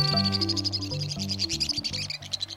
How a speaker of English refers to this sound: A torrent of shrill notes ricochets off the sheer stone walls of the Western Canyon. A pair of white-throated swifts careens by at high speed, revealing boldly patterned bodies.